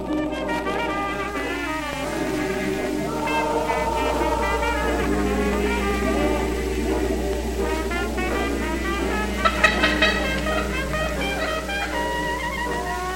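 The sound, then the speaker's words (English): A wild turkey hen's fly-down cackle as she leaves the roost: a rapid, uneven run of sharp, raspy clucks that quickens into a brief excited burst, heard over a steady low hum with no talking. “That is a fly-down cackle.”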